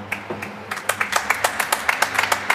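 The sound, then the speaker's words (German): A small audience claps to vote that a free kick should have been given in a football match, a rapid run of sharp, bright hand claps building over a couple of seconds with no one speaking. “Jetzt Beifall klatschen, wenn es Freistoß hätte geben sollen.”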